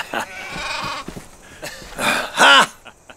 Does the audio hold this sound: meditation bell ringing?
no